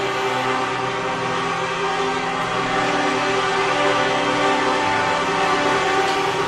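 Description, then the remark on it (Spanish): A loud, unbroken chorus of truck air horns from nearly 500 trucks filling the center of Santander in protest, many overlapping tones blaring steadily together for the whole stretch, with no one talking over them. “Con el sonido de casi 500 camiones invadiendo el centro de Santander en señal de protesta.”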